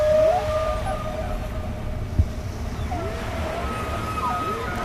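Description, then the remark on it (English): Humpback whale calls drift in long, wavering tones and rising sweeps over a steady low underwater rumble, with one brief knock partway through; no one speaks. “And backing me up right now, we're continuing to have our humpback whales.”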